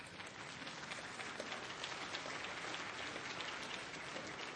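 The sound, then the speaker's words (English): An audience applauds steadily, a dense wash of many hands clapping at once with no gaps, holding an even, fairly loud level for several seconds without any voices. “All I ask is you practice what you clap for.”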